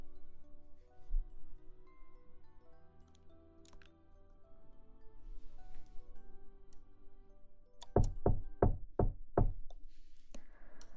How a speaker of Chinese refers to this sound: 好啦，好像有下一个人类来敲门了。